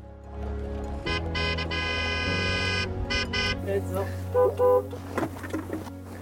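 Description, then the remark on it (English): A car horn blares in one long, loud honk of about two seconds, followed by a shorter toot, over a low idling engine rumble, as a car on a dusty road reaches a herd of Clydesdale horses in a field; faint voices and movement follow as people get out. “Then, after honking the horn, they stop and get out of the car.”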